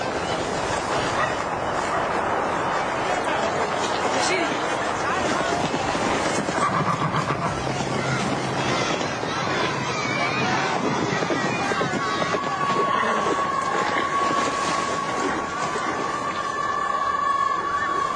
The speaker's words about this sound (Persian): این دیگر چیست؟ چنین طوفانی را ندیده بودم.